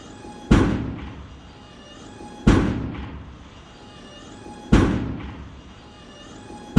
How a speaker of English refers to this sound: The door to the mess hall opened. A giant robot lurched in.